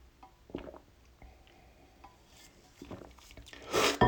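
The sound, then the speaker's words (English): A quick sip from a drink: soft clinks and handling of a cup, then a brief, breathy slurp that rises sharply at the end, with no talking. “Let me take a quick sip.”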